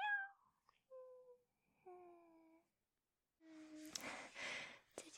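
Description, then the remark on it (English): A voice imitates a cat with several soft, drawn-out meows spaced by short pauses, followed by a breathy, rushing exhale-like sound. The meows are fairly quiet. “It's so soft and fuzzy, huh? Meow.”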